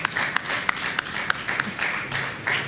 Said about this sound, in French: On va l'applaudir peut-être.